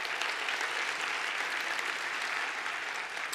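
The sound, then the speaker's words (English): An audience applauds steadily, a dense wash of many hands clapping at an even, sustained volume from start to finish, with no voices rising above it, giving Diane Nelson another round of applause after she was on stage. “So please give her another round of applause.”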